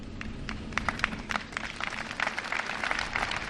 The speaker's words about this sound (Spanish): Concentración silenciosa a las puertas del Ayuntamiento en la Plaza del Pilar, que ha finalizado con estos aplausos.